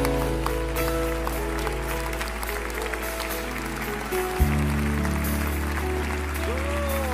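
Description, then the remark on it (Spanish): A church audience at an afternoon service of consecration to God applauds steadily for several seconds, a dense wash of clapping layered over sustained keyboard chords that shift to a new low note partway through. “Él es ese aplauso, son sus hermanos.”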